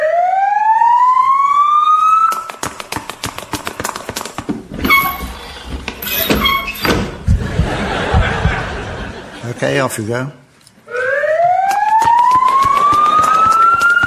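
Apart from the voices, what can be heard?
ambulance siren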